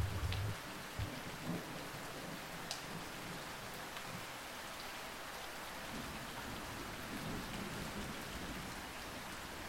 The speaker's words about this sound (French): Suivez à présent une nouvelle goutte de pluie qui tombe cette fois au milieu d'une forêt.